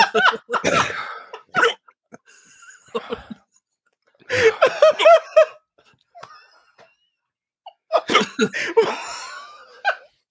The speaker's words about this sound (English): It's just the sound of hiccups.